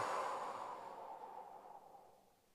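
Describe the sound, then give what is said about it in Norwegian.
A long, soft exhale during a breathing exercise, a breathy airy rush centered in the midrange that gradually fades over about two and a half seconds, heard alone without talk. “Og så puster vi ut.”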